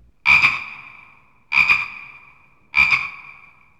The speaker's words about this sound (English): Frog.